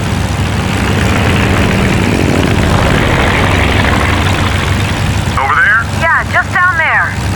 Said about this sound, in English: Anya clutched at the armrests on her seat as Mike jerked the plane all over the sky, trying to make it a smaller target.